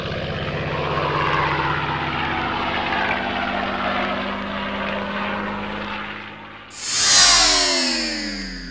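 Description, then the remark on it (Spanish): World War II-era propeller planes roar steadily overhead in a flyover above a city, with a droning engine hum, then one passes with a loud, sweeping whoosh that fades as it moves away. No voices. “Por otro lado, en la ciudad hubo un sobrevuelo de aviones de la Segunda Guerra Mundial.”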